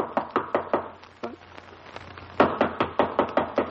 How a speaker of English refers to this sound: Mother, I don't hear any sounds inside. Oh, dear. Well, try knocking. Maybe the bell is out of order.